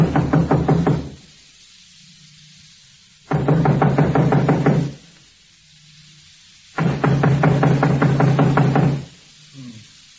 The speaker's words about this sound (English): Knock on the door, eh? Yeah, right.